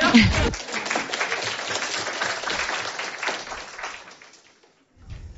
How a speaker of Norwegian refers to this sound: Vi gleder oss masse. Nå setter jeg meg ned. Vi klapper.